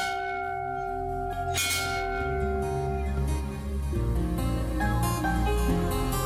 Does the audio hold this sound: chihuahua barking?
no